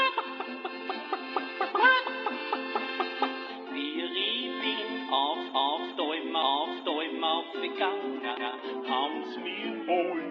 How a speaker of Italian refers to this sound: Ah, ecco, l'ingegnere inserisce l'audiocassetta nel riproduttore. La sta riavvolgendo.